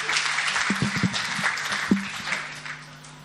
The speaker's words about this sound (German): Ein Applaus für meine Frau.